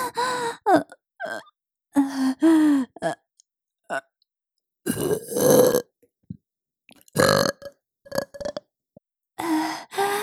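A series of loud burps, some long and drawn out, others short, spaced irregularly with brief silent gaps between them. No speech is heard.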